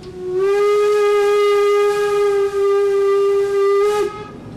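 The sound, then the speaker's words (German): A class 64 (Baureihe 64, nicknamed Bubikopf) steam locomotive whistle sounds one long, steady, loud blast for about four seconds, a rich mid-pitched tone wrapped in breathy steam hiss, then cuts off, leaving a short hissing tail. No one speaks. “Das ist die Baureihe 64, auch bekannt unter dem Beinamen der Bubikopf.”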